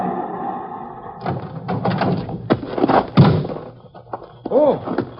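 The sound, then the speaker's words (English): A farmhouse door is pulled open while it is still dark, bumping with several hollow thuds and knocks, followed by a short creaking, whine-like sound near the end. “Trent came to the door.”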